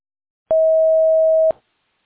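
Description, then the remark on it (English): A single steady electronic beep, a voicemail recording tone, holds one pitch for about a second, clear and fairly loud, with a faint click at its start and end and silence around it. “Record your Hello, message at the this tone.”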